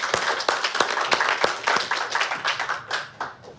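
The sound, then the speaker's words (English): A small group gives themselves applause, clapping together for a few seconds. The sharp overlapping hand claps are fairly loud, forming brief, steady applause that tapers off slightly at the end. “Give yourselves applause, come on.”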